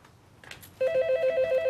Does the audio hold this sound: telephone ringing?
yes